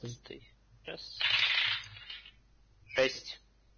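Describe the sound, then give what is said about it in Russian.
A twelve-sided die clatters and rolls across a hard tabletop in a rattling burst, followed by a short sharp knock as it settles; faint voices are heard briefly. “ти кубик. Да, это 12-й.”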